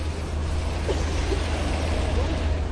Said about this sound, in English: The sounds of the city.